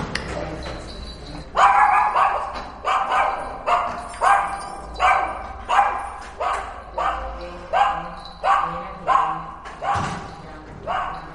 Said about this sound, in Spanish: y cuando mete la llave abajo en el portal, la perra ya ladra. Yo tengo que levantarme, regañarla y entonces se calla. Siempre que sea una persona conocida, se calla. Cuando reconoce, si no reconoce, no para de ladrar. Aparte es muy chillona.